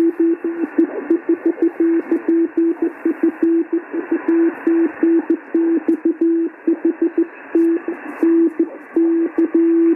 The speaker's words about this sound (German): Ja, OE4 Papa Fox Uniform war da noch in CW.